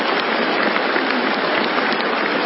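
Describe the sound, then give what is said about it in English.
A large crowd applauds steadily, a dense wash of many hands clapping at once that holds at an even, loud level without breaking or fading, with no voices heard. “They're still clapping, going on and on and on.”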